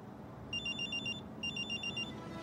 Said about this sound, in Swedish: Då ringer Sixtens telefon. I andra änden är Tindras syster som frågar efter henne.